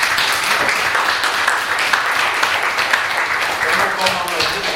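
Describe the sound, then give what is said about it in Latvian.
Many people applaud steadily at a meeting, a dense, even patter of many hands clapping that holds at the same loudness for several seconds without a break. The applause honours a man and his specialists for successful, professional work done in a short time. “Un es domāju, ka viņš ir pelnījis aplausu no mums visiem.”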